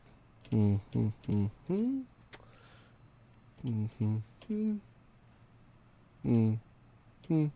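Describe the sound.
A voice imitates phone keypad tones while dialing a call to a Pizza Hut in Downers Grove, with a series of short hummed beeps in uneven clusters: several quick ones, a pause, then more, each fairly loud.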